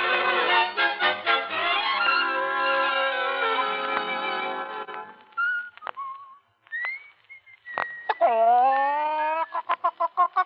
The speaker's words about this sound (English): Ah, you've woken up at last, Rooster. You know, you've been a disgrace to me here among these people, Omar. I said you were a fighter, but all you do nothing but sleep.